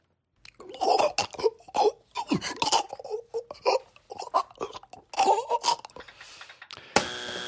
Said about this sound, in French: Je vais vous faire écouter le son de quelqu'un qui est en train de décéder parce qu'il a avalé du pain de travers.